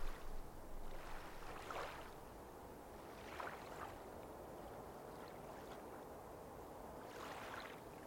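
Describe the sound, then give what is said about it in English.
Gentle water waves wash in soft, steady swells as the sun dips below the horizon, rising every couple of seconds over a low continuous rumble. Quiet and calm, with no voices. “The kookaburra has bid you good night, and the kayaker has paddled away, leaving you with the calming waves.”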